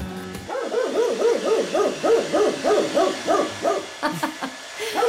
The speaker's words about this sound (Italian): mentre il Fon andava a tutta forza e il cane Maddox abbaiava, forse geloso o forse desideroso di voler pure lui il calore sul pelo.